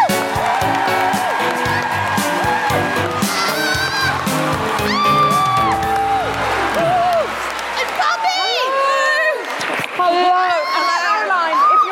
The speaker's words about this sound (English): Put your hands together and make extraordinary guilty feminist and woo-hooing welcoming noises for the wonderful Caroline Creator Perez.